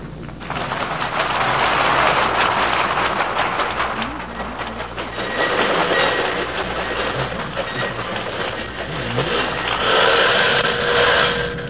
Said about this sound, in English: a train is pulling in